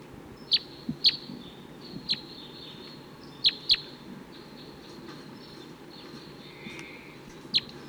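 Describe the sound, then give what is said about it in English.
Wild male birds calling from nearby treetops give short, sharp, high-pitched chirps, about seven scattered irregularly with a few quick pairs, over a steady low rumbling background hiss. No one speaks. “They're still around, calling from the nearby treetops.”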